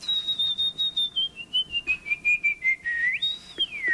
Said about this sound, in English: As a competitive whistler since the 1980s